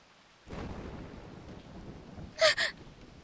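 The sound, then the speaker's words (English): A thunderstorm sets in suddenly, with steady rain hissing and a low rumble of thunder underneath, then two sharp, loud bursts near the end. “Scared of the storm?”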